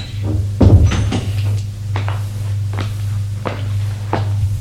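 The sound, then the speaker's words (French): A door off a narrow, dark hallway is opened amid a series of dull knocks and thuds, roughly six irregular impacts over a constant low droning hum, with no voices. “Elle ouvre une porte.”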